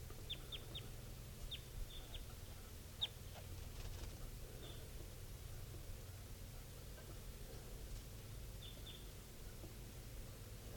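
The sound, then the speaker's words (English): A wild adult male bird, type 2, flying around low near cages of birds, calls in short, high chirps, mostly in quick clusters of two or three, repeating at irregular intervals over a steady low background rumble and hiss. “recording this wild bird, adult male, is just flying around low near the cages of the birds.”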